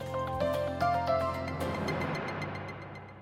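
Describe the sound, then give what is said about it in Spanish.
Water runs steadily from a tap, being wasted, a continuous hiss that builds and settles in after a brief tonal musical opening, with no talking. “Este eres tú gastando agua.”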